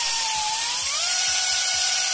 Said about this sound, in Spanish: Es el sonido de las motosierras de los brigadistas que realizan líneas de defensa para controlar el fuego.